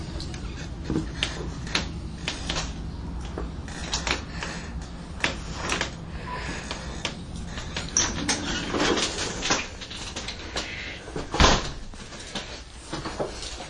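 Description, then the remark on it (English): A person arriving home opens the front door of their house to enter: clattering knocks, rattles and scrapes as it opens, with a sharper thud near the end, over steady low background rumble and no talking. “I am about to re-enter my house, and I think at this point I'm entering my house as we speak.”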